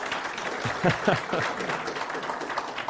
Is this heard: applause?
yes